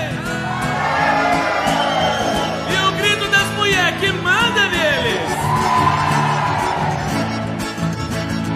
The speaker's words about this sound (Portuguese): Eu quero ver o grito apaixonado dos homens.